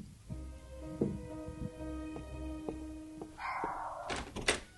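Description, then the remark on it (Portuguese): A cupboard door thuds shut several times, then a louder rattling clatter as it is slammed and locked, over a steady low electrical hum. “Finalmente alguém trancou uma porta nessa casa.”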